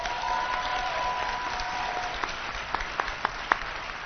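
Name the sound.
audience applause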